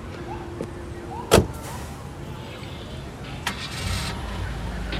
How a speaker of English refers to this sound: As the judge's car drives away, El Turco tosses his cigarette into the street and jots something down in his notebook.